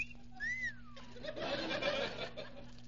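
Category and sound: human body sound, wolf whistle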